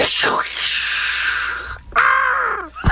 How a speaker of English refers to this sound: Why is there a bird at the end of it? Well, it's a lightning strike, and the bird gets hit.